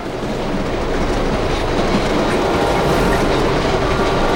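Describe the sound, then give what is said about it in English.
A train rumbles and rattles loudly along the tracks as it speeds up and shakes more, with a dense steady clatter of wheels filling the whole stretch and no voices. “The train is moving faster, shaking more than it did.”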